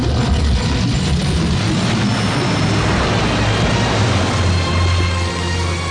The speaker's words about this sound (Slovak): Odrazu sa zdvihli riečne vlny a čiernych jazdcov v okamihu zmietol príval burácajúcej vody a rieka bola opäť pokojná ako predtým.